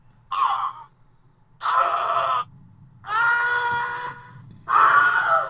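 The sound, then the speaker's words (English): A man's voice imitates a stock movie death scream in four loud, drawn-out yells separated by short pauses, each a strained, harmonic cry over a low background hum. “I love that standard scream.”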